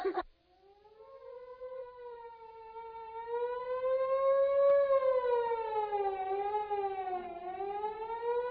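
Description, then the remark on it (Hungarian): A fire siren sounds for a fire somewhere, wailing steadily with a rich harmonic tone that slowly rises and falls in pitch. It swells louder and holds, sustained and alone for about eight seconds. “Hallod? Valahol tűz van.”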